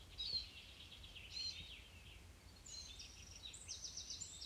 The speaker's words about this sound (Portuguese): Ouvindo o canto dos pássaros.